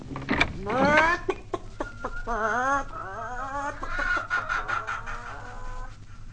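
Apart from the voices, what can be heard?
chickens clucking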